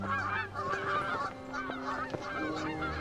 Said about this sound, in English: We can see a similar effect in the flight of migrating birds such as geese. When geese are flying in formation, each bird benefits from the uplift created by the one in front of it, so that they fly in a very energy-efficient way.